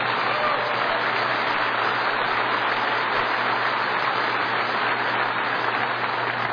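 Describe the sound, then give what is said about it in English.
A crowd at an NCBA cattle industry gathering applauds after a line about keeping taxes low and permanently repealing the federal death tax. The clapping is a dense, continuous wash that holds at an even loudness from start to finish, with no one speaking over it. “That's an applause line.”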